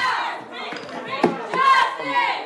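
Black Lives Matter protesters in a council meeting shouting over one another, loud and continuous, with raised voices swelling and overlapping and a sharp burst partway through.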